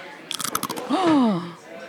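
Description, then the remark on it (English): A very thin, dark brown, blistered fried potato chip, on the cusp of being burnt, is bitten, giving a quick burst of sharp, dry crackles for about half a second, followed by a voice letting out a drawn-out, pitch-sliding sound of appreciation. “Just listen to the butt to biting into this chip.”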